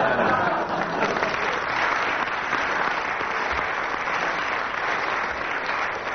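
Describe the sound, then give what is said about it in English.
A live audience breaks into sustained, steady applause, a dense wash of clapping that stays loud and even for several seconds with a faint murmur of voices underneath. “And with that spontaneous burst of applause from the audience”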